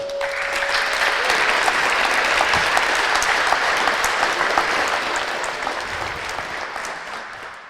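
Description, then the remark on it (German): Sustained audience applause welcoming the speakers of a talk at CCC Camp 2019, a dense wash of many hands clapping that holds steady for several seconds before tapering slightly at the end, with a brief faint tone at the start. “Bitte begrüßt sie mit einem großen Applaus.”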